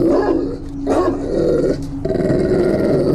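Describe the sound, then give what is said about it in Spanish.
A dog growls and barks loudly, a sustained rumbling snarl broken by a few sharp barks, with no talking. “Probablemente ni siquiera me podía escuchar debido a lo fuerte de sus ladridos.”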